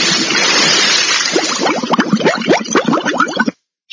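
A broad rush of splashing water gives way to a dense run of bubbling, gurgling plops, like something plunging under and sinking, before it cuts off abruptly into silence.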